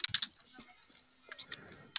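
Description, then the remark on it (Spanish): Several quick, crisp clicks of keys being pressed on a switched-on keypad, some in a tight cluster at the start and a few spaced out later, heard over a thin, phone-like line with no talking. “A ver, ¿puede ingresar alguna tecla? Bueno, apretar. Sí, ahí está una.”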